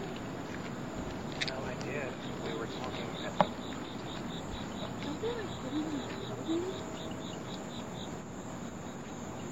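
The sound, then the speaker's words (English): A little high-pitched chirp repeats in a steady, even series, faint against a constant buzzing insect-like drone and low rustling background noise, with a sharp click partway through. “Is that little chirp chirp? Is that it's a rat? It's chirping.”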